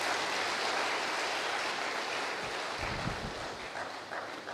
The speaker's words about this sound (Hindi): बारिश आ गई शायद, स्वागत कर रही है आपका, धन्यवाद भाई।